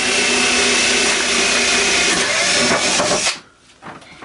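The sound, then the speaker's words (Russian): A power drill whirs loudly and steadily for about three seconds while drilling holes, its motor whine grinding through material, then cuts off abruptly, leaving near silence. “А вот у меня этот вот дрель. Ага. Я делаю вот эти дырки.”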